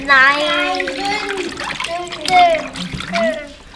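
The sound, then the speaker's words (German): Water sloshes and splashes softly beneath children's voices, which stay dominant throughout, as children make small waves in the water. The small wave sounds run under the talk rather than standing out on their own. “Wir machen es so, dass ein kleine Wellen kommen.”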